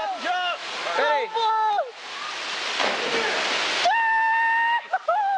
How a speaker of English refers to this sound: In a home movie, Wilson and his friend Mark Aquino dive off Hawaii's Malawini waterfalls.